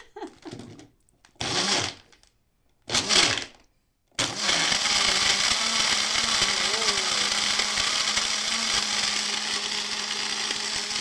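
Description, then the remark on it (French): A blender motor starts in a few short bursts, then runs steadily and loudly, churning and grinding ice and fresh fruit through liquid with a dense whirring roar. “En passant, les instructions précisent que si vous le faites fonctionner non-stop au-delà d'une minute, le moteur pourrait chauffer.”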